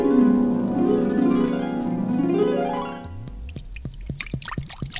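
Liquid pours steadily from a bottle into a vessel, its tone rising as it fills, then breaks into a few close, gurgling glugs and drips as the pour tails off. No voices.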